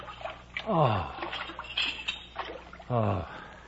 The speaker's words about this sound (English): So I was glad enough to pause by a little stream, take off my helmet, and dip a few buckets of cold water down the back of my neck.